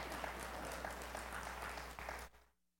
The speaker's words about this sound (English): That's it. See how simple that was? Just, can we have a little round of applause for, yeah.